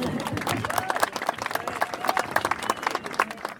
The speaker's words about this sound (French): Merci d'être venus nombreux déjà. Vous pouvez vous applaudir, je pense.